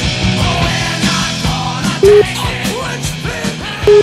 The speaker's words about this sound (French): on l'a sorti pour vous autres, la fameuse version de …, de …